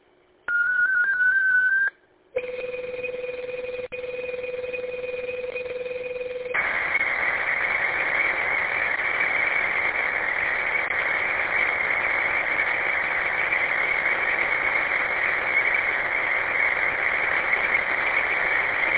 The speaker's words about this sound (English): I do have a digital message very short. Stand by for digital traffic.